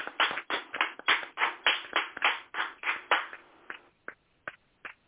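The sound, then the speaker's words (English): A crowd applauds recipients of the President's Lifetime Achievement Award with dense, rhythmic clapping that holds steady for about four seconds, then thins out to a few scattered, isolated claps before stopping. No one speaks. “Can we give a round of applause and show some love on Facebook”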